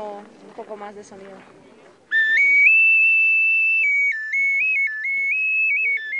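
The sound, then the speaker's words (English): A man speaks briefly, then a clay whistle, like those hawked by local sellers outside the pyramids, is blown loud and shrill for several seconds, holding steady high tones that step up and down in short, warbling jumps. “Outside the pyramids, local sellers hawk clay whistles,”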